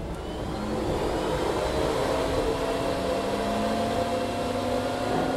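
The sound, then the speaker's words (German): Loud, steady rushing whir of the cooling fans of an ASIC crypto miner with 192 ASIC processors, warming up from cold, with a low hum beneath, its tones creeping slightly higher as the fans spin up. There is no talking. “Die Ventilatoren fangen richtig an, wenn die Prozessoren arbeiten. In diesem Miner sind 192 ASIC-Prozessoren, sage ich jetzt einfach mal dazu.”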